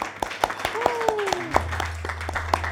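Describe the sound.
Sparse applause from a small audience: sharp, irregular claps over a couple of seconds, with a voice sliding underneath and a steady low hum joining partway through.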